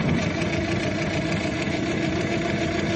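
vehicle, car engine idling

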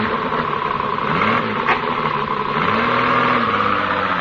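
vehicle, car engine running

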